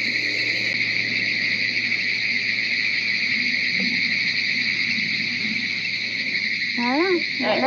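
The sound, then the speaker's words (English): A dense chorus of frogs calls loudly and without pause at night, forming a steady, shrill, ringing drone, with a faint low murmur beneath and a brief voice near the end. “Now, these are some loud ass frogs. Why are the frogs making louder noises right now?”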